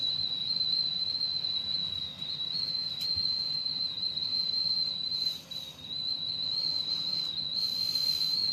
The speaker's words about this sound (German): Wie so ein scheiß Teekessel. Der Zug schnauft auch unter der Schwerlast.